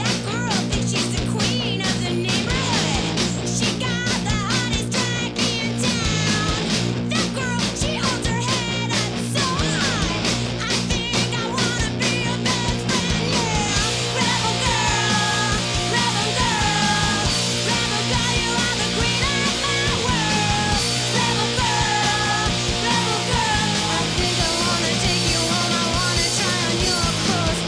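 A loud riot grrrl punk song plays throughout, with raw screamed vocals over distorted guitars and pounding drums, full-volume from start to finish.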